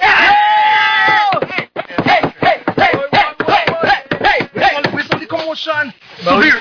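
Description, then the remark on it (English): A quick, steady series of sharp, loud knocks on a table, tapping out a rhythm while a voice talks and hums over it. “I is a new table master. Then knock a thing.”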